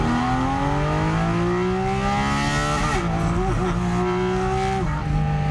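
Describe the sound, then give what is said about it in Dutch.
A 500 hp sports car engine with 450 Nm of torque revs steadily upward to a high, strained pitch, with a brief dip near a gear change before climbing again, loud throughout with no talking. “En benzine is 5.500, 6.000. Een beetje sportieve auto. Misschien een keer 7.000. Heel soms 8.000. Ja, en deze gaat gewoon helemaal door.”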